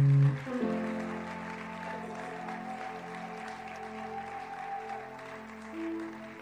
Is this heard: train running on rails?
no